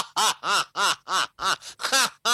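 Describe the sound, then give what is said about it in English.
A person imitates a duck, illustrating the nickname El Pato (the duck), with a rapid, steady series of about eight loud, nasal quacks, evenly spaced, with no other talking. “That means the duck.”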